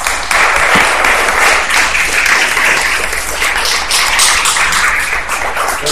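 A festival crowd applauds the festival organizer steadily for several seconds, a dense, even wash of many hands clapping at once with no voices standing out.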